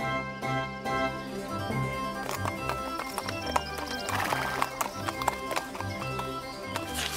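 Hooves clop in a steady rhythm while a horse whinnies and snorts over a continuous musical backdrop, the hoofbeats sharp throughout.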